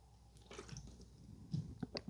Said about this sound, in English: Now I'm doing a little bit of water. So here's a little water sip right quick.